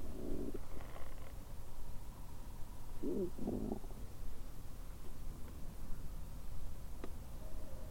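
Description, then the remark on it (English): An owl hoots faintly from the distant woods surrounding a cemetery, a couple of short, low, soft calls spaced a few seconds apart over a steady low rumble of background noise, with no talking. “Thought I heard an owl from way out.”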